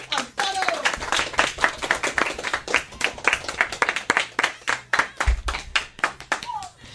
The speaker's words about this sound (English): they have performed a very good radio program in English, so I think you deserve an applause.